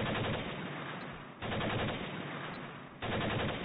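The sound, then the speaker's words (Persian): Loud, sustained fire from a machine gun on the rooftop of the house opposite rattles on without pause, a dense rapid stream of shots, with brief surges where fresh bursts begin. No one speaks. “تیرباری که روی پشت بام خانه جلویی بود هنوز شلیک میکرد.”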